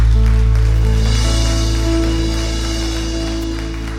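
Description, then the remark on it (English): A church audience applauds to give glory to Jesus in a steady, dense wash of clapping that fades slightly toward the end, layered over loud sustained low musical chords. “Lift up that applause.”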